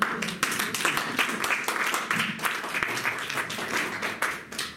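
An audience at a book presentation applauds with dense, steady clapping that stays fairly even in loudness for the whole stretch, many hands overlapping into a continuous crackling wash.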